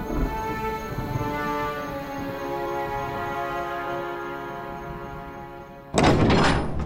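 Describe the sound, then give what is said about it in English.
A great palace door swings open with a long, steady, groaning creak lasting several seconds, then a sudden loud, broad burst of noise as it reaches its end. “Inside the palace, the great door opens”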